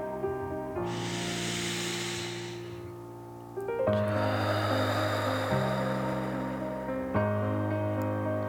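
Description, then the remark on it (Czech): A long, forceful breath blown out through the mouth after a deep inhale through the nose, as part of a breathing exercise, a steady airy rush lasting a couple of seconds over soft background music that continues after it fades. “Chvíli dech zadržíme a potom vydechneme pusou a budeme předstírat, že jsme draci, co chrlí oheň.”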